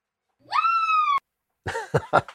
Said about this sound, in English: I heard it in the distance. I heard that scream.